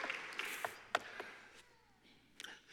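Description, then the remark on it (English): A crowd claps hands to thank God during a sermon, a soft, dense patter of many overlapping claps, with a few sharper individual claps standing out irregularly before the applause thins and fades. “Would you pause and just clap your hands and thank God today that we have revelation in his Son?”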